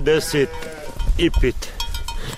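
Several sheep from a flock of about 55 plus lambs bleat in quick succession as they are let out onto snow-covered meadows, wavering calls fairly loud, with one pair early and another pair about a second later over a steady outdoor background.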